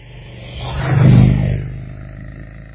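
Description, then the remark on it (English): A classic car engine rumbles past with a deep, throaty roar that swells to a peak around the middle and then fades away, with no talking. “And it's just a classic car coming.”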